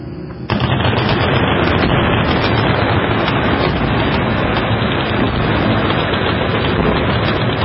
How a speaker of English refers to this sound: That is hundreds of people with tracer ammo shooting cans of gasoline at Knob Creek. That's all that is.